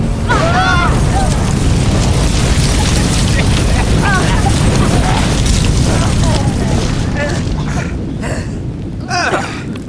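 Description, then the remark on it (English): A massive factory building explosion roars loud, a sustained rumbling blast with crashing, tumbling debris as the building is reduced to rubble, barely fading over ten seconds, while brief shouted cries break through the din. “A most satisfying explosion. The building has been reduced to rubble.”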